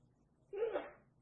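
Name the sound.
sneeze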